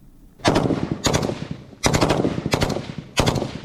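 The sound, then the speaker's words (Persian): Heavy gunfire from Ukrainian tanks firing at Russian forces on the battlefield near Bakhmut, eastern Ukraine, rings out in loud, sharp bursts, about five in quick succession, each leaving a rumbling decay. No one speaks over the shots. “میدان نبرد در نزدیکی بخمود گرم است و تانک های اوکراینی به سوی نیروهای روس شلیک می کنند.”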